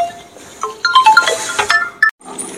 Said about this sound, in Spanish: Disculpad, me han llamado por teléfono.